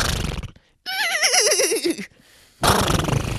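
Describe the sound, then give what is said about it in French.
A person imitates a horse whinny, a single warbling, wavering call that falls in pitch over about a second, loud, between bursts of noisy background chatter and movement. “Après il faut que je fasse le cheval pendant 45 minutes.”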